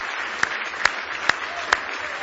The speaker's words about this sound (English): Go ahead and give the Lord another hand clap of praise this morning.